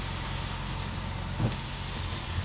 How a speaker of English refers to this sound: Look at this traffic coming in now to Guildford.